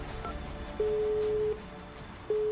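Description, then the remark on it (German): A telephone call being placed to a petrol station, with long, steady electronic line tones sounding twice through the receiver, clear over a faint background hiss. Nobody speaks. “Aufgeregt nimmt sie das Telefon in die Hand und sucht die Nummer der Tankstelle heraus.”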